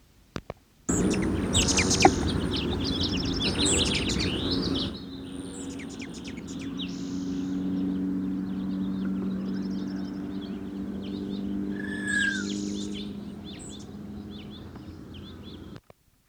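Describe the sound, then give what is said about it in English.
A male Allen's hummingbird (Selasphorus sasin), probably of the mainland race, gives its aggressive chatter: rapid, thin, high-pitched chips throughout, opening with several seconds of loud buzzy wing whistle and later a brief slurred whistle, with no voices. Recorded at Franklin Canyon Study Area, 11 May 1969. “Aggressive chatter and wing whistle of male sasson, Franklin Canyon Study Area, 11 May 1969.”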